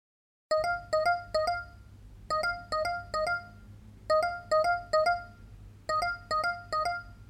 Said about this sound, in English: Look who finally decided to answer his phone.